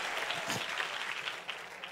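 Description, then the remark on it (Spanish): A church audience applauds for the Lord, a steady dense wash of clapping that holds at an even, moderately loud level for the whole stretch with no voices rising above it. “Dele fuerte ese aplauso al que vive y al que reina por los siglos de los siglos.”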